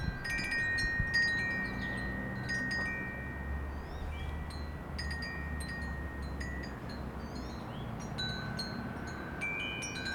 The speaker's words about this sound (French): Un petit carillon au bord d'une maison.